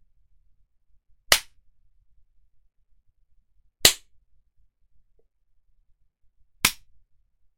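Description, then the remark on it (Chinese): Three sharp, loud whip lashes given as punishment, each a single crisp crack separated by a few seconds of silence, with no voices. “那小狗今天还要挨20下鞭子呢。”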